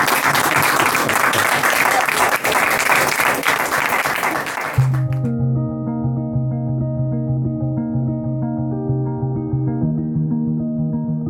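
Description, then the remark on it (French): A crowd applauds loudly for about five seconds at the end of an interview, a dense wash of clapping that stops abruptly as steady, sustained musical tones take over and continue to the end. “Mais je crois qu'on peut s'applaudir quand même, non?”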